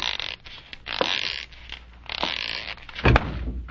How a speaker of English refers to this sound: Oh, ouch, doggone. Who left that closet door open? I don't know. Oh, thank goodness. There, the lights are back on. Oh, yeah. Boy, did that ever hurt. No wonder you bumped into the door. There's no room to squeeze by.